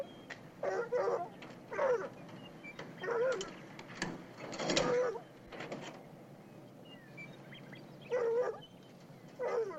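Several dogs whimper and bark in short, irregular bursts, their whiny yelps rising and falling over a low background rumble, moderately loud.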